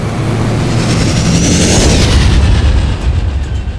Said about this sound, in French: Cute se loge entre deux bateaux, à côté du générateur, tandis que le vaisseau commence son ascension.